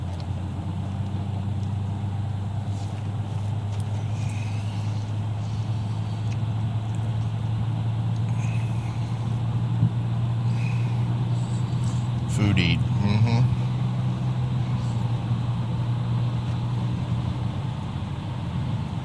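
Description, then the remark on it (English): A car engine hums steadily from inside the moving vehicle, a constant low drone that runs the whole time, with a brief squeaky rattle partway through and faint indistinct voices. “I was driving that other car and it's got a whole bunch of different hand, or, you know, different controls, and I'm looking for them on this car, which doesn't have those.”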